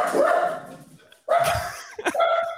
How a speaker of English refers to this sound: Just dogs barking.